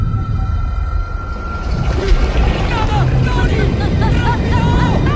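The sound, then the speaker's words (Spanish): A human voice imitating whale calls, drawn out into long, wavering moans and rising-falling cries, repeated over a steady wash of low rumbling noise, fairly loud. “Eso es orca. ¿No te ha sonado a orca? No suena nada a orca.”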